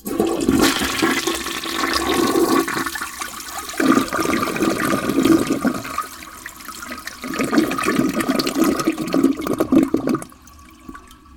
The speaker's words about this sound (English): Just to the right of the sink, you have the toilet. And because I am who I am, I will flush said toilet.